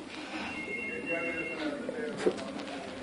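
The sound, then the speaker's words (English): A telephone outside rings faintly, a thin steady electronic tone that sounds muffled, with low room noise and a soft murmur of voices underneath. “Yes, outside phone.”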